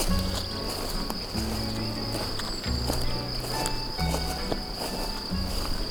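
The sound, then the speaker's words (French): Insects in a meadow chirp in a steady, high, continuous trill throughout, joined by scattered brighter clicks, over a low humming drone that shifts in pitch every second or so. “Entre les oiseaux et les insectes.”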